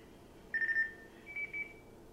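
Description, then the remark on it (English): A Nextel walkie-talkie chirp on a cell phone, played from a video: two short, high electronic beeps in quick succession, the second slightly lower and longer, clear over faint background hiss. “It is the Nextel walkie-talkie sound effect on the phone.”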